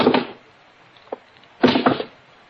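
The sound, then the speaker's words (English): A person takes off two shoes and drops them one by one onto the floor of a quiet house, each landing with a dull thud about a second and a half apart, with a faint tap in between. “First thing I did was take off the shoes and drop them one by one on the floor.”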